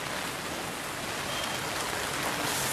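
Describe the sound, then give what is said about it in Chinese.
Steady heavy rain pours down outdoors in a small alley near the speaker's home on a cold day, a dense continuous hiss of drops spattering on hard surfaces, fairly loud and unbroken throughout, with no voices. “那今天现在在下雨，所以我现在带你们去看一下我家附近的小巷子，走吧。”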